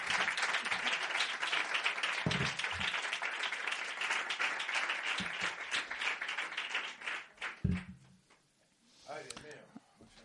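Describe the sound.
An audience applauds with dense, rapid clapping that stays steady and loud for about eight seconds, then tapers off as a voice briefly speaks at the end.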